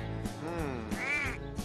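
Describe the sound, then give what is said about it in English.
A duck quacks several times in quick succession, nasal and raspy, fairly loud, with no voices. “He left the blankets next to the barn door and waited for Duck to come with the typewriter.”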